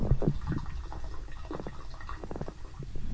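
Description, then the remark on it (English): Water gurgles down a studio drain in a steady stream of irregular, bubbly glugs, low and throaty with brighter splashy pops, continuing for a few seconds with no talking over it. “That's not my stomach. That's the drain.”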